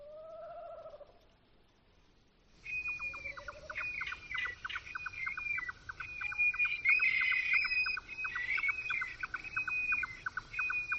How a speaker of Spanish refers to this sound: A mí ese sonido me encanta, porque también es nocturno. Es un alcaraván. El alcaraván es un ave que vive en espacios abiertos, en huertos, en zonas fragmentadas, con setos. Es un sonido súper sugerente de la noche.